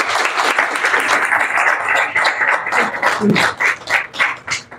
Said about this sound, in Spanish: O sea, que ahora yo sí que le pido el aplauso, pero por esto que acaban de hacer, que es un documento maravilloso. A ellos cuatro.